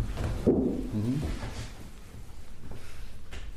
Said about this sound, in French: En même temps, à partir du moment où tu as compris que c'était une porte, tu cesses de te questionner.